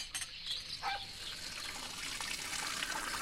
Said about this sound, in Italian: Quanto ci starai sotto quella doccia?